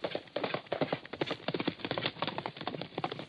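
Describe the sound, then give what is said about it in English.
Steady clip-clopping of horse hooves trots along in an even rhythm as a rider patrols the shorelands of Canada on horseback, fairly loud, mixed with busy tonal background sound on an old, muffled-sounding recording. “So, here we are, horse, patrolling the shorelands of Canada.”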